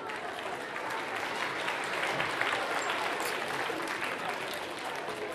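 An audience claps steadily throughout, a dense, even wash of applause at moderate volume with no pauses, many hands clapping at once.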